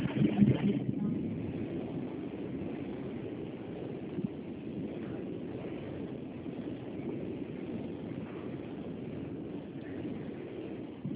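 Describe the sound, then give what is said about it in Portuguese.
Steady low engine rumble and road noise fill the interior of a moving city bus, a continuous droning hum with faint rattles and no voices. “Tô na rua, no ônibus.”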